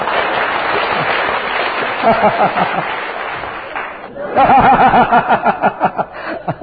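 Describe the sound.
A crowd claps to approve the suggestion that a professor sing another song, a dense steady patter of many hands, then the applause swells louder midway, mixed with laughter and some voices from the audience.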